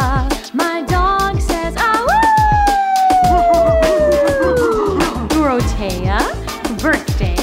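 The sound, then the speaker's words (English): A dog lets out one long, loud howl that rises and then slowly sinks over a few seconds, set against an upbeat happy birthday song with a steady beat and singing voices. “My dog says, to you, Dorothea.”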